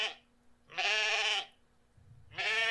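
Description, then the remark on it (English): Bighorn sheep on steep canyon cliffs bleating in loud, wavering calls, one full bleat between the tail of an earlier call and the start of another, with a quiet pause in between and no talking. “I love to watch the bighorn sheep scale steep cliffs.”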